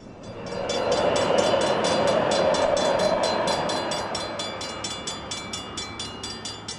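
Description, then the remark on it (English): A light rail train in East St. Louis, headed out to the junior college, rumbles past, swelling to a loud, steady roar before easing off, with a rapid run of rhythmic clicks from the wheels as it moves away. “Where does that train go?”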